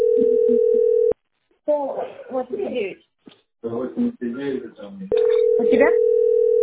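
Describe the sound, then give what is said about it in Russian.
A steady electronic phone tone sounds for about a second, breaks off while voices talk, then returns loud and unbroken near the end. “Я на свой телефон посмотрела, думала, что это у меня.”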